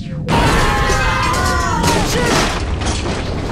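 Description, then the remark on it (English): A battleship crash and explosion bursts in suddenly, then a loud, sustained roar of rumbling debris with shrill metallic screeching tones weaving through it, fading slightly toward the end. “Battleship go boom.”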